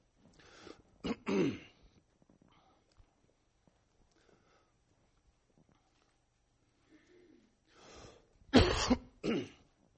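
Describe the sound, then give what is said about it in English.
A person coughs and clears their throat in two bursts, a harsh rough cluster early on and another loud pair near the end, separated by a stretch of near silence. “If you just get a piece, get a water, put it in the pulpit, I'll quit coughing, probably.”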